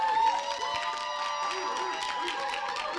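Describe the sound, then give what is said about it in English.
An audience applauds after a community team's presentation, with a steady, dense patter of clapping that holds at an even level for the whole stretch, mixed with a murmur of crowd voices. “That group over there didn't clap, but that's okay.”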